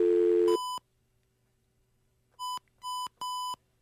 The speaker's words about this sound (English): We're sorry for the beeps. That's how our phone system sounds. We're calling the actual federal building there, and we might wind up with a switchboard, or we might wind up with someone who took over the building.